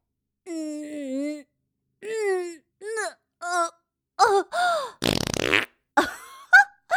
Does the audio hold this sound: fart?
yes